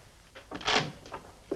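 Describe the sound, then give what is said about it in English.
An office door opens as someone enters, with a brief rattling swish that swells and fades in under a second, followed by a few faint knocks and shuffles; no one speaks. “He makes to speak as the door opens and Alison enters.”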